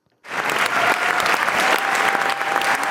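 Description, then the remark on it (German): Sustained applause from the theatre audience at Theater Chur at the end of the premiere of the stage play Damangur, based on the novel by Leta Semadeni, dense and steady clapping that starts abruptly and continues evenly throughout, loud with no speech, lasting minutes. “Das Publikum hat am Ende vom Stück Damangur den Plausch gehabt und hat das mit minutenlangem Applaus auch gezeigt.”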